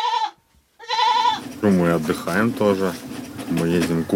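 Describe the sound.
Two loud, wavering goat bleats ring out one after the other, from goats kept with chickens and a vegetable garden at a family's country house in Russia, before a person begins talking and keeps speaking to the end.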